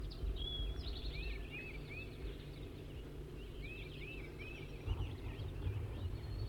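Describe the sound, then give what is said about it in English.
A wild bird, perched in a small serviceberry bush about 20 meters or less from a net, calls in short, curved, whistled notes, repeated in small bursts of two or three, over a steady low rumbling background noise. “4-3's calling now.”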